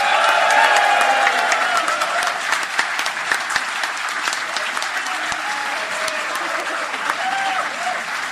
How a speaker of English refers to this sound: But another big round of applause, if you will, please, for the Goblin King himself.